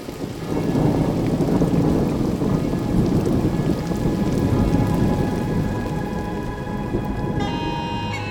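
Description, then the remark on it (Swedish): An approaching heavy storm of steady, loud rain with deep rumbling thunder rolling underneath, at the port town of Rungholt in the Danish county of Schleswig on 15 January 1362, continuous throughout without any voices. “En storm är i antågande.”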